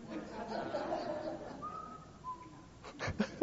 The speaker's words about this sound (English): Whistling the theme song for the Andy Griffith Show